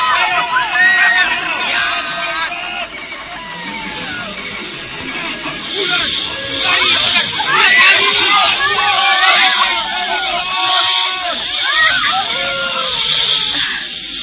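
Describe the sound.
Repeated bursts of loud hissing from many snakes attacking people swell over a panicked crowd fleeing in fear, with many voices shouting and crying out at once in a chaotic commotion.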